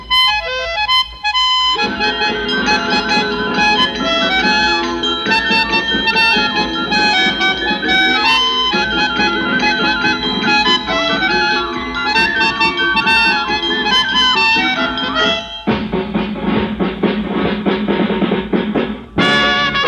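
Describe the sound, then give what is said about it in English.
The Christmas tune Jingle Bells played on tinkly toy instruments, bright and busy with steady rhythm, loud throughout, with a brief pause near the end before it resumes. “We'll play jingle bells for you on toy instruments.”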